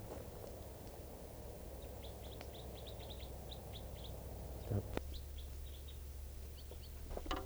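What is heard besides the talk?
white-winged crossbill calls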